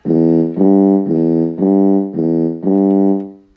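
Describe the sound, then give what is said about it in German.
A circus elephant trumpets loudly as a farewell in the ring at the show's grand finale, a run of about six brassy, evenly spaced blasts, each held at the same steady mid pitch with no voices. “Der Elefant verabschiedet sich mit einem lauten Törrö.”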